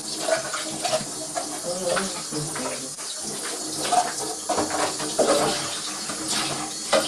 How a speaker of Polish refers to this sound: Opłukujemy go sobie. Dobrze jest go też opłukać, dokładnie tak. Jakbym cię mógł prosić, żebyś zatkała kosz. Dzięki. Opłukujemy pod bieżącą wodą.